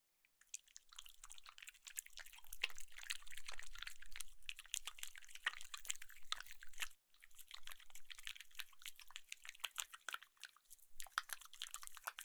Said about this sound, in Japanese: 続けて、シャンプーします。泡は多めの方がいいかな。